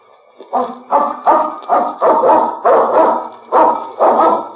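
A dog barks repeatedly in a steady series of about eight loud barks, each short and sharp with brief gaps between them, and no voices alongside.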